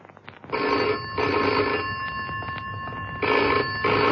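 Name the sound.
telephone ringing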